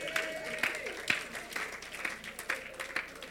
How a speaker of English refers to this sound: Clap for our land.